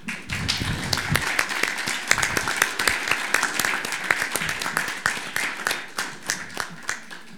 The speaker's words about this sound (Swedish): Så vi kanske ska tacka av han med en applåd.